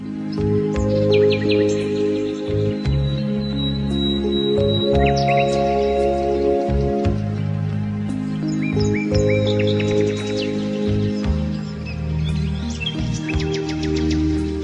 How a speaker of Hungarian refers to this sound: És madárdalt.